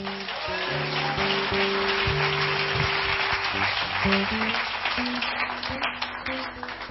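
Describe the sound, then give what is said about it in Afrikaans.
Steady crowd applause fills the whole clip, a dense crackle of many hands clapping at once, with sustained low organ-like chords droning underneath. “kom ons gee hom 'n hande klap”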